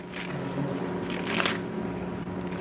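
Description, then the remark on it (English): Soft papery rustling of book pages being turned as people turn to Matthew chapter 15, a few overlapping flips swelling and fading over a steady low hum, with no one speaking. “I hear pages turning.”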